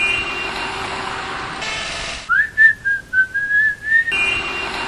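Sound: whistled tune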